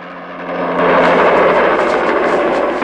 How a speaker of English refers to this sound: A helicopter comes over the hill towards them. Bond spots the helicopter through the netting. He grabs Solitaire and they hit the ground as the bullets ricochet round them.